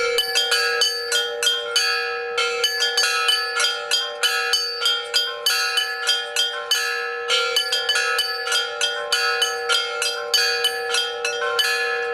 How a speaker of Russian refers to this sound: на территории исправительной колонии номер 5 города Кемерово построили звонницу из 8 колоколов.